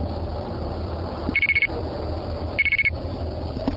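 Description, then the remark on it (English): Two short bursts of rapid electronic beeps, about five quick pulses each, like payphone tones registering two quarters, sounding clearly over a steady low hum with a pause between bursts. “Did you want to pay with coins? Sure. Okay, just go ahead and put it in.”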